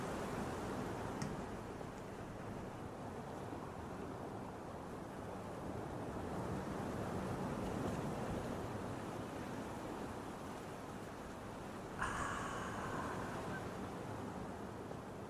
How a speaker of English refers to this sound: I'm just going to, you know, chill out here with these ocean waves for a moment.